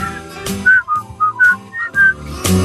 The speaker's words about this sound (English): On Fridays, we like to start the weekend with a little whistling.